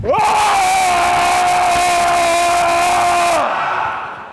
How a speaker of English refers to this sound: This time we're going to, like, jump around and we're going to scream. All right? So on the count of three, we're going to jump and we're going to scream and we're going to keep it going. One, two, three. Let's scare that guy.